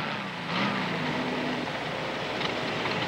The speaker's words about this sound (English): You hear this wonderful sound of the Volkswagen coming in, and it turns and it goes away.